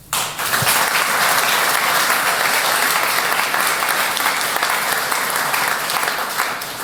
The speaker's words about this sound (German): Take us away. Und Applaus.